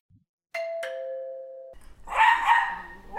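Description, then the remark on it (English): A two-tone doorbell chime rings at a remote house in the middle of nowhere, then a dog starts barking loudly, a quick burst of sharp barks right after the bell fades. “Didn't know he had a dog.”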